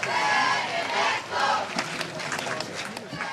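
A large crowd of faithful cheers and shouts enthusiastically as Pope Benedict XVI greets them with both arms raised on an esplanade, a dense wall of many voices rising in bursts, loud and sustained throughout with no distinct individual speech.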